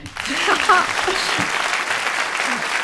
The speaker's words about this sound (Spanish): ¡Qué bonito! Un aplauso para ti.